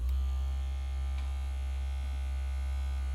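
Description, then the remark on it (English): A small vibrator buzzes with a steady electric drone, low and even in pitch with a faint harmonic whine above it, holding level for the whole few seconds with no voices. “That's not my phone, big boy. It's a vibrator.”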